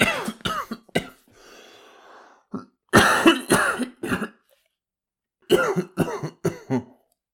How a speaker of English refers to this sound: Father shook his head and a fit of coughing took his words for a minute.